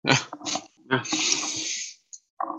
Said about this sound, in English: For those of you who can't see, I'm currently eating a packet of mini cheddars, so I hope you're enjoying that. I couldn't even see, so that's what that huffing and deep breathing is all about.